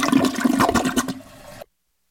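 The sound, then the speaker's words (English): A commercial toilet flushes with a loud, forceful rush of water that churns for about a second, then drops to a quieter hiss before cutting off abruptly. No voices. “You got a commercial flush for me?”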